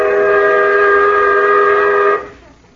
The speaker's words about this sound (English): Well, you'll have to shout louder. That whistle almost blew my brains out.